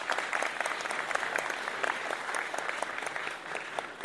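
A round of applause from a crowd, steady dense clapping that holds at a fairly even loudness for about four seconds without a clear peak.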